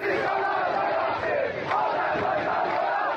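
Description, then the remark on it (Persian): A large crowd of protesters shouts together in a dense, continuous roar, many voices blending into raised chanting and yelling that stays loud and steady throughout, with no single voice standing out. “با همه محدودیت‌های خبررسانی و اینترنت در داخل، صدای فریاد مردم بلندتر از سانسور حاکمیت است.”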